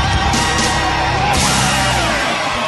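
crowd cheering wildly

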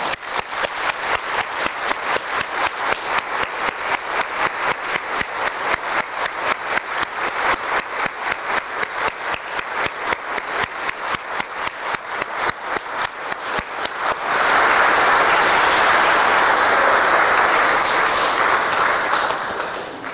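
audience applause

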